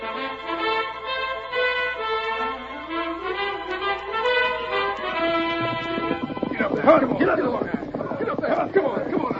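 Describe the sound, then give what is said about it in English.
A drawn-out, wavering tonal cry gives way to a burst of rapid, clattering hoofbeats, fairly loud, like a horse breaking into a gallop. “Get aboard my horse.”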